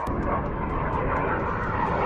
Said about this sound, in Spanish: Seguro que has escuchado los aviones de la exhibición aérea en la que han coincidido por primera vez las patrullas Águila, Aspa y Papea para hacer las delicias de casi 300.000 asistentes en torno a la bahía de San Lorenzo.